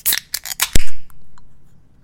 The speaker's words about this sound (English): All right. Let's go ahead and crack these beers then in 3, 2, 1.